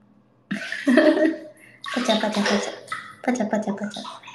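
Bathwater sloshes and splashes in a bathtub as the bath reheating is switched off, in three uneven bursts over a few seconds, a broad, fairly loud watery rush, with a short pause between the first and second bursts.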